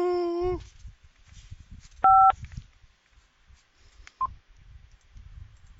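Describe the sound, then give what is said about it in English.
A short, loud electronic beep from a phone answering machine, the tone after which a recording starts, sounds once against quiet low background rumble, preceded by a brief high whine and followed later by a faint chirp. “To delete, record after the tone, press 5 when you are done.”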